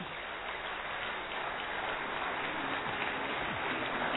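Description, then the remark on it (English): A crowd claps steadily throughout, a dense, even wash of many hands with no pauses and no voices rising above it, as speakers are invited onto the stage. “please come on the stage and you please keep clapping.”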